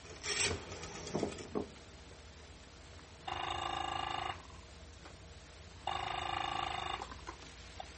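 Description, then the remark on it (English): Scraping, rattling handling noises of a telephone in a phone booth in a drugstore on State Street, then two steady ringing tones, each about a second long with a pause between, with no talking. “When the thought comes to him that he should call Big Bill Wiley and report what has happened, he enters a drugstore and goes to a phone booth.”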